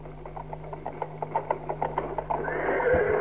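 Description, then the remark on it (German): A black horse with a rider neighs toward the end, a bright wavering whinny after a run of quick rhythmic pulses, all over a steady low mechanical hum in the background. “Du sieh mal, ein Reiter.”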